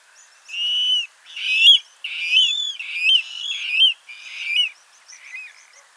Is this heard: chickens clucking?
no